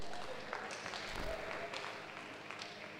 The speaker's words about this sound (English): Please clap for them.